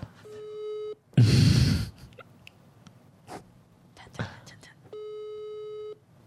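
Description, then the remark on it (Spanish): A steady electronic phone tone sounds in two long beeps about a second each, separated by a burst of noise and a few short clicks and murmurs between them. “Che, tu pitido se escucha mucho mejor que el mío.”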